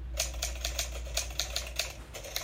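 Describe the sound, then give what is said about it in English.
Rapid, uneven clacking of an old typewriter's keys, a steady stream of sharp mechanical strikes over a low hum, heard alone; an old typewriter sound effect. “Oh, it's a sound effect of a typewriter I found.”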